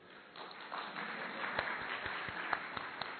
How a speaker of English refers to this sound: Claps for her.